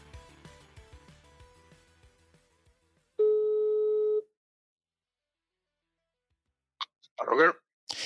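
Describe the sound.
A single loud, steady telephone ringing tone of an outgoing call sounds for about a second after some fading background sounds, followed by a pause and then a voice beginning to speak.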